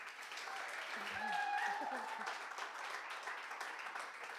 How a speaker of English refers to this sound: Thank you so much for sharing with us. Give her a round of applause as she goes to take her seat.